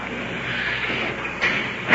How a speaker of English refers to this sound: Jailer's opening the door for us. Prisoners placed in the cell. Secure.